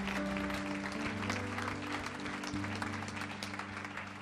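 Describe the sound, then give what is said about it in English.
A church audience claps together as a clap offering to the Lord after a prayer, a dense, steady burst of applause that holds its loudness throughout, with low sustained tones humming underneath and no voices. “Can you give the Lord a good clap offering?”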